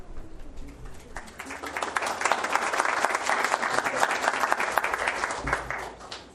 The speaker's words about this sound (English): if you'll stand in front of us here as a group, when we're completed, we'll give you a big round of applause.